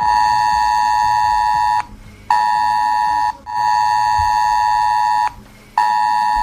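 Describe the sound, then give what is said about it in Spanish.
A loud, harsh emergency alert tone from a mobile phone blares in long, steady blasts broken by brief pauses, a piercing buzz-like tone repeating with no voices: a test message of the Protección Civil S-Alert system sent to mobile phones in the Comunidad Valenciana. “Según han informado, bajar un poco más, sonará este pitido en algunos teléfonos móviles anunciando que se trata de un mensaje de pruebas del sistema de alertas de Protección Civil”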